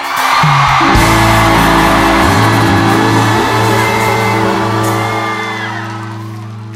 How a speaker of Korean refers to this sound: 여러분, 삼바의 매력에 빠지고 싶습니까? 열기에 불타오르고 싶습니까? 삼바를 믿습니까? 5초간 함성 소리!